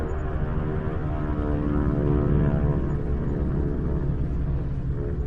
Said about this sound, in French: Le vrombissement des avions invisibles dans le ciel masque le bruit des chars d'assaut.